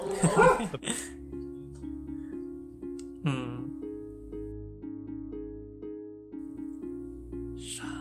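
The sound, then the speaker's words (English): A dog barks sharply twice, once at the start and again partway through, loud, over a steady low background hum. “You're about to hear a dog bark.”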